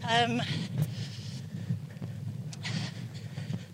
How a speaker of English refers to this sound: it's quite windy, isn't it? It's quite windy. I'm worried about the sound, I'll be honest, but it will create drama. People will believe that we're by the sea. They are by the sea.